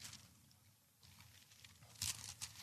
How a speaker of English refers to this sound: Look over there with me. I want to hear your Bibles rustling. 2 Corinthians chapter 5, verse 19.